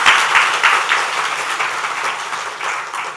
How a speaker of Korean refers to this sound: 뒤로 돌아서 인사할 때 박수를 한번 경청해 주시기 바랍니다.